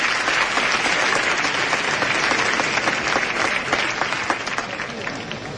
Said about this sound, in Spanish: Bueno, y esa es la respuesta del público, ¿no? Ovación cerrada que la pueden oír.